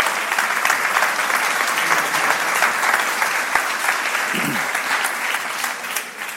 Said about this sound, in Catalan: És i un aplaudiment.